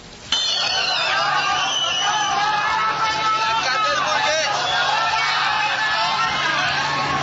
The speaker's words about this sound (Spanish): Durante un recorrido por el centro de la ciudad, el alcalde Enrique Peñalosa fue chiflado por algunos ciudadanos.